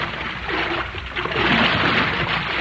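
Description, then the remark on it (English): Four paddlers drive a vinta boat as hard as they can along an underground river. Paddles churn through the water in a steady, hissing wash, with soft rhythmic surges as each stroke splashes. No voices, just continuous watery noise throughout. “Right now, while Tolita steers the vinta and Betty sits on a bundle of supplies, Jack and Billy and Uncle Jim and Whisper are paddling for all they're worth. Listen.”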